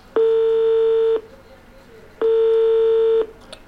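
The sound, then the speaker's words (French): Two steady telephone ringing tones, each about a second long, separated by a short pause, loud with only faint background noise between them; a call to a drug helpline that no one answers. “mais par contre toujours personne au téléphone. On réessaie encore une fois.”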